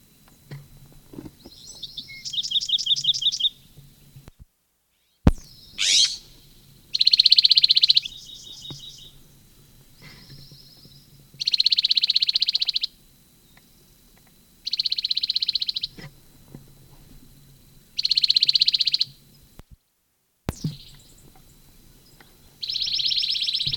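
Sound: bird calling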